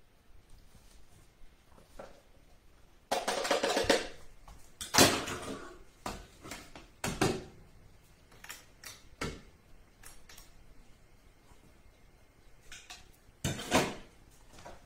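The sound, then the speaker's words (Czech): A thick mixture, blended with a little water, is scraped and poured into a pot, with a series of irregular clunks and scraping knocks of utensil against metal, moderately loud, with quiet pauses between. “Rozmixovanou, tak ji přendám do hrnce.”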